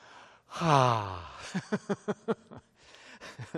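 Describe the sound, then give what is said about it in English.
A small, breathy yawn with a voiced tone sliding downward, followed by a quick run of soft clicking, lip-smacking sounds. No one speaks. “And then, I like that little yawn there. That was cute as it could be.”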